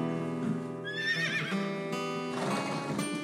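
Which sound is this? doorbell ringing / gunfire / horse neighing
horse neighing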